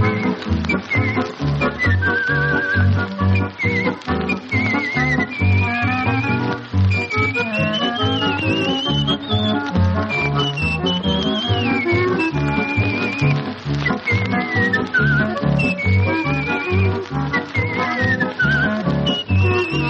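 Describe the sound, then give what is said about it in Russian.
A person whistles a lilting melody from the film "Return to Sorrento", taken from an old record, with sliding, warbling notes, carried clearly over a steady instrumental accompaniment with a rhythmic bass, continuous and prominent throughout. “Так вот, практически все наши отечественные фильмы, там, где звучит свист, это звучит голос”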